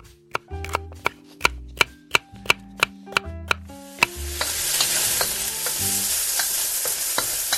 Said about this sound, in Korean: 달군 팬에 베이컨과 양파를 볶고 삶은 꽁끼일리에를 건져 함께 넣어 볶다가 소금과 후추로 간을 한다.